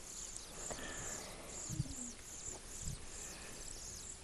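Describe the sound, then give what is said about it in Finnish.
Faint, high-pitched nestling begging calls repeat steadily from inside a nest box, a thin continuous chatter with a couple of soft low thumps and no talking. “Että varmaan nytkin kuuluu, kun ne kerjää siellä.”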